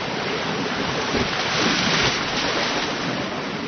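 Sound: water gushing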